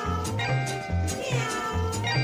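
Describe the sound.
Bright electric guitar slides up and down in sweeping glissandos, mimicking a yowling cat, over a bouncy, steady bass line and busy band accompaniment at a lively, even volume.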